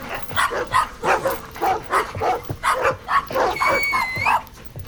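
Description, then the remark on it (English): Several dogs bark in a steady, rapid string of yaps, joined near the end by a high, rising whine, with excited panting breaths between the barks. “Stay. Heal. Stop trying to kill me. Stupid dogs.”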